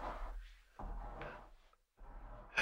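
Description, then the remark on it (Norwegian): A wooden plank creaks in three drawn-out, rubbing groans separated by short pauses, moderately quiet, ending on a sharper, brighter scrape. No one speaks. “At det knirker I en planke eller sånn.”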